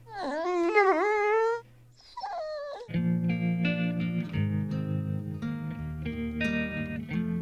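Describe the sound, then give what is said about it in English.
Frank, a dog from Battersea Dogs Home, whimpers and howls in a few high, wavering, rising whines for about two seconds, followed by a short drooping whine, and then steady music with sustained chords takes over. “You were abandoned as a puppy.”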